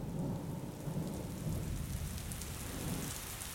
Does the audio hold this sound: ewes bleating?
no